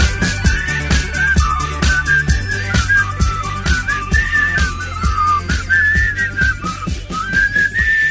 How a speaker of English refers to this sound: I think the whistling's covered.